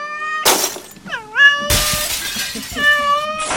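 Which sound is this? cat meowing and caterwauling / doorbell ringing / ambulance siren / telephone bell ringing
cat meowing and caterwauling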